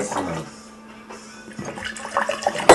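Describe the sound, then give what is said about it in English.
Deer Park bottled spring water splashes and gurgles as it is poured, a steady trickle that swells into a louder, fuller gush at the end. “This is actually Deer Park bottled water.”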